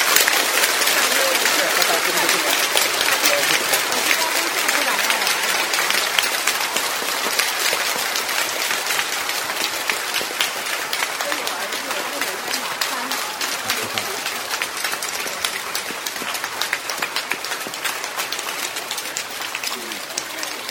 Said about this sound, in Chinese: 你前面请上来的人啊，他们一定有他特别的原因，为他们能上来消除他们的那些看不到的那些苦，给他们用鼓掌的方式消掉灾难。